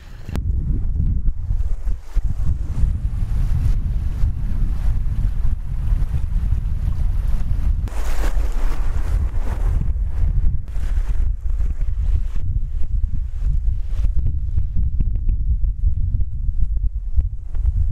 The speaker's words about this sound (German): Ruhiges Wasser sieht anders aus. Vielleicht könnt ihr das hier auch mal hören.